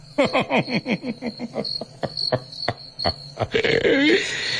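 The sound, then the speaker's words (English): Crickets chirp in a quick, steady series of pulses, then thin out into a few scattered clicks before a hissy night-time ambience takes over, with no one speaking. “The crickets got it.”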